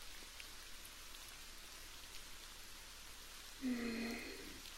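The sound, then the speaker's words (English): Steady rain patters softly and evenly throughout in cold weather, a continuous hiss of drops, joined near the end by a brief low tonal hum that fades back into the rainfall. “It looks like more rain might be coming, and I'd hate to leave you cowering under my porch in the cold.”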